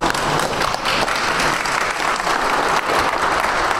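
Loud, sustained applause from a crowd, a dense steady wash of clapping that holds at full strength for about four seconds with no voices standing out.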